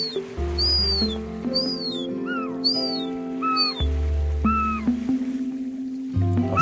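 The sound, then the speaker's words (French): Juvenile herring gulls give a series of thin, plaintive, down-slurred whistling calls overhead, repeated every second or so over a steady low engine-like hum. “Il y a des jeunes gonnets argentés. Ah oui, au-dessus de nous.”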